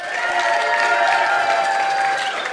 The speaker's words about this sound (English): You know, I saw some people that weren't even clapping. So that wasn't even a one.